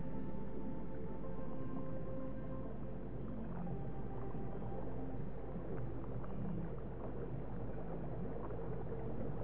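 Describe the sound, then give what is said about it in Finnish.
Steady bubbling water keeps up a continuous, dense gurgle with small irregular pops and splashes throughout. The flow stays fairly even in level, with no voices over it. “Kuulet pulputtavan veden äänen.”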